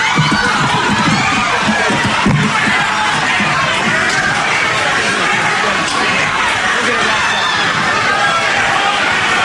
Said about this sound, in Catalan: Aquest és el moment, poc després, pujaven els 4 policies a l'escenari, quan van baixar, la gent va començar a corejar a Donald Trump.